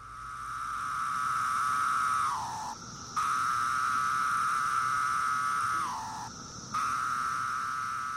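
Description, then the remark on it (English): A cicada of one of the most common species on the East Coast sings in a steady, mellow whistling drone that holds one low pitch, then sags downward at the end. Two long phrases, each with a brief pause after the falling note. “And so one of the most common on the East Coast is the really mellow sound, and it sounds like a low whistle.”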